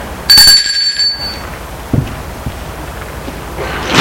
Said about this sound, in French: Ils suivent la petite cour et vont jusqu'au vieil immeuble, jusqu'à la vieille petite maison plutôt. Sonne à la porte.